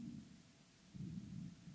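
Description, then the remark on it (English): Thunder rumbles low, a steady muffled roll that swells louder about halfway through before easing slightly, with no voices present. “My grandmother, German grandmother, when it was thundering, she says, "Der lieber God ist schimpft." He's scolding. Well, in this case, I think it's approval.”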